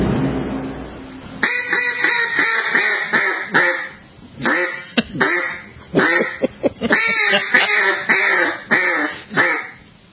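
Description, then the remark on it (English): A duck call quacks in a rapid, raspy series of loud, nasal honks, coming in bursts with short pauses over about ten seconds, prominent with no talking. “the duck call at the end gets me, too.”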